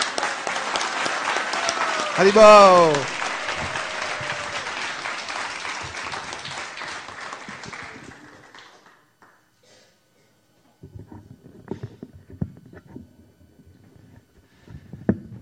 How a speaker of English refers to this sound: And if you'll help me in bringing him up here with a big round of applause.